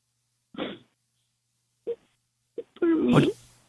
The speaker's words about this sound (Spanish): ¿Por quién estás llorando en estos momentos? ¿Por quién lloras? ¿Por quién son esas lágrimas?